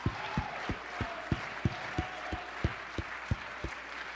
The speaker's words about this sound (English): If you want revival, I want you to stand on your feet, clap your hand, lift your voice, give God some praise tonight.